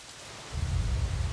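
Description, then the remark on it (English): Steady rain falling on the slopes of the Andes mountains hisses across a wide band, and about halfway through a deep, rumbling roar swells in underneath, like heavy downpour with thunder. No voices. “The clouds condense into raindrops, which then race down the slopes and flow directly back into the Amazon basin.”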